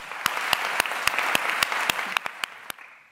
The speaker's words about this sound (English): FRSA reviewers, for some of you in the room with us today, can I ask you to please put your hand up, and then I'd like to invite everyone to please applaud them and say a huge thank you.